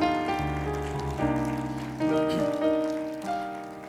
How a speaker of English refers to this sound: Let's just give him a hand clap of praise across the building.